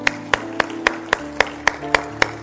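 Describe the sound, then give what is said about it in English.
An audience claps for the Lord in steady unison after seven people raise their hands following a prayer: about nine sharp claps in quick even rhythm over a sustained hum of held musical tones; no one speaks. “Just give the Lord a clap.”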